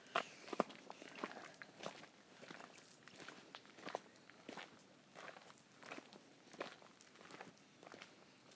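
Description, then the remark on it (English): Steady footsteps crunch and rustle through leaf litter in the woods in autumn, about a dozen regular strides at an even walking pace on an owl hunt, with no voices present. “We're walking away from civilization.”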